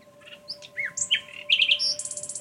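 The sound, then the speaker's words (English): Birds sing in a lively run of varied whistles and warbles, ending in a quick, repeated trill, over a faint steady background hum. “Some people at least have learned to fly with the birds and sing with them.”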